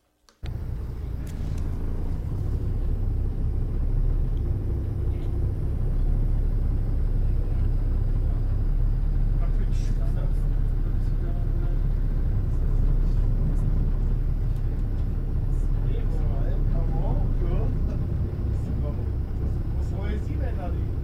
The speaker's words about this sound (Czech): Takže dnešek byl poučný v tom, že nenafouknutá karosa se nedá vypnout. A pak jsme se už jali autobus malinko posunout a to si můžete vychutnat právě nyní.